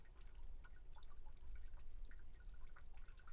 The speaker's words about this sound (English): I can hear the drainage of water from the roof.